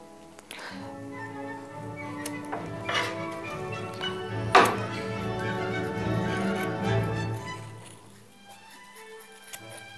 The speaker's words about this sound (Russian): Сирень. Как мы делаем сирень? Мы берем шерсть и очень мелко нарезаем ее на наши заготовки.